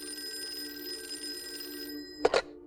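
telephone ringing

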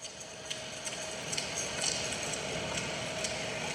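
air conditioner hum

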